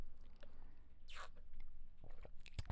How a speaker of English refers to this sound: I'm currently sipping on mine, so if you hear some really good, like... Slurpees.